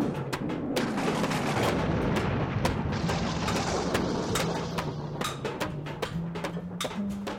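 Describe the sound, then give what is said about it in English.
Loud thunderbolt crashes and booms strike again and again over a continuous low rumble, sharp bursts landing irregularly throughout with no voices: thunderbolts hurled by Thor outside the main hall in Asgard. “Thor was stomping around outside the main hall, chucking thunderbolts.”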